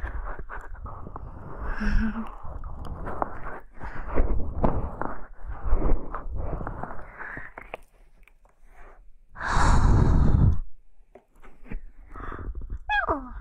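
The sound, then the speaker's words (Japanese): A cat yawns, a single breathy, airy exhale lasting about a second, standing out from a bed of soft, continuous low rumbling and rustling, then a faint high squeak at the end. “あくびが出ました。”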